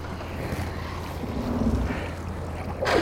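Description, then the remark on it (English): A kayak pushes off into Islayus Creek in southeast San Francisco, heading east, gliding out onto open water with steady low rumbling wash and outdoor wind noise, then a brief louder splash of a paddle stroke near the end. “We push into Islayus Creek and head east.”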